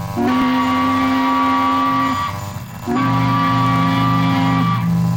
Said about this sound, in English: Even the sharp whistle of a tugboat.